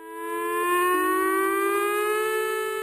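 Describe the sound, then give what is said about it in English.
The annual emergency siren test at the San Onofre Nuclear Generating Station in California, one of 52 sirens in northern San Diego County and southern Orange County, wails steadily, its rich harmonic tone slowly rising in pitch, loud and sustained without any voices. “That's a familiar sound to people who live near the San Onofre Nuclear Generating Station, the annual emergency siren test.”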